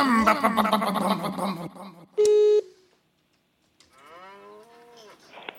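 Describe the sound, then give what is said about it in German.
A person loudly imitates a cow with drawn-out, low mooing sounds. A short electronic beep cuts in between, followed by another wavering moo after a brief silence. “Du kannst ja noch mal kurz deine Trägergeräusche machen”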